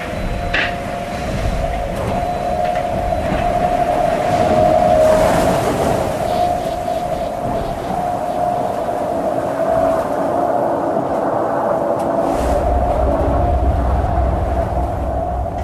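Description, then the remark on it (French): The racing sailboat Linked Out, sailed by Thomas Ruyant, roars through a choppy swell and strong gusts above 40 knots, with a steady loud rush of air and water and a sustained humming, singing tone running underneath throughout. No one speaks. “Une houle hachée et de fortes rafales de vent à plus de 40 nœuds. Le bateau Linked Out commence à développer tout son potentiel sonore et harmonique.”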